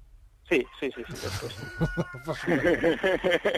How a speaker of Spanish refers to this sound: tienes que saludar a ese gallo que se oye ahí detrás de nuestra parte